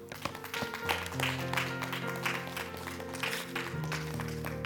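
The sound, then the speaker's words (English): An audience claps steadily and continuously for the day's teaching, a dense wash of many hands over sustained organ or keyboard chords held underneath. “Clap your hands for this teaching today.”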